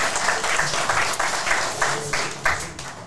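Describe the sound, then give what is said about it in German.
A crowd applauds steadily for a few seconds, a dense wash of many hands clapping at a fairly loud, even level with no voices standing out. “Ja, Applaus. Natürlich.”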